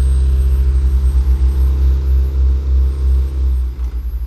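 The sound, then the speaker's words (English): Heavy machinery rumbles close by, an asphalt paving machine and dump truck churning with a deep, steady engine drone that pulses throughout, loud and near with no talking. The paving machine moves very close, and the truck tilts up to unload asphalt into the paving machine's front end. “The paving machine is getting very close to me.”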